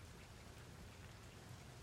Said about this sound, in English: Okay, well, it's kind of raining out here.